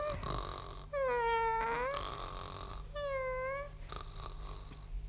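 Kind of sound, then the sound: animal, cat meowing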